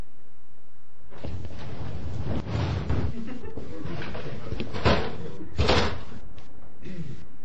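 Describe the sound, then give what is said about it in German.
A door opens, then a man drags a heavy wooden chest in behind him as he enters, scraping across the floor for several seconds, broken by a few sharp knocks and thumps, fairly loud. “Bill Bones öffnet die Tür, zieht eine Kiste hinter sich her und tritt herein.”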